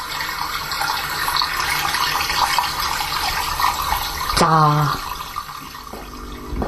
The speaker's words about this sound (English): Running water.